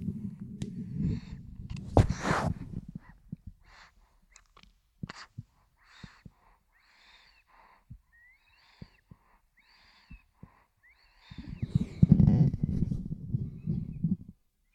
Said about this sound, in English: You can hear him snoring, right? Breathing. I'm going to put the mic on his little face.